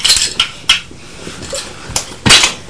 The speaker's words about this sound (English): Oh, you've knocked the hotel over now.